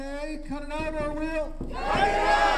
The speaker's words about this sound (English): is leading a small crowd in a call and response.